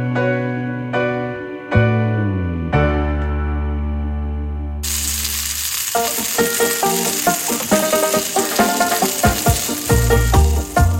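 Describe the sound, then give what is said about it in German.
Food sizzles on a barbecue grill at a Pentecost weekend barbecue, with a steady, bright hiss broken by scattered clicks and scraping clatter. A few sustained musical chords fade out at the start before the sizzling begins. “Hört man schon, ja. Das Pfingstwochenende liegt vor uns, da gibt's eine Grillerei.”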